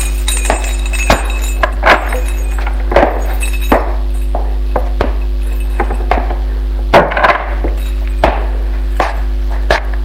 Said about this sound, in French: Il habite boulevard des Breteaux, dans une vieille immeuble cossu, un 3 pièces, au 2e étage. Il va ouvrir la porte de son appartement.